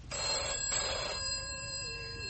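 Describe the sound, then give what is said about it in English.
A telephone bell rings once, loud, its metallic jangle holding briefly before fading into a lingering tone; the call is from the hospital. No one speaks. “That's the hospital on the phone now.”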